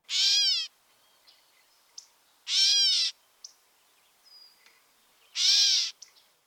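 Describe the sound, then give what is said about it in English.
A gray catbird's cat-like meow call, a loud, nasal, slurred mew repeated three times at slow, even intervals, with a few faint, brief chips between the calls. “Also listen for the diagnostic cat-like meow.”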